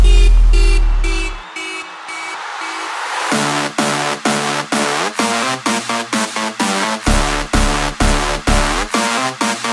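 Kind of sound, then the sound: vehicle, car alarm going off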